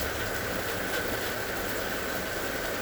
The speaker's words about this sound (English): Can you feel the nervous system balancing, settling down as you listen deeply and intently to the sound of the rain?